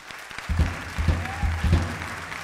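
A concert audience at the Mercat de Música Viva de Vic applauds a pianist of a musician's group, with dense, steady clapping that holds at a moderate level for the whole stretch, with a few low thuds rising and falling beneath the clapping.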